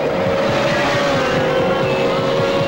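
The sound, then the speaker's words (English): Race car engines roar loudly and steadily as the cars sweep around a curve, a high droning whine sustained throughout with a slight pitch drift as they pass at speed, no voices present. “Joe falls back, then catches up as they sweep around a curve.”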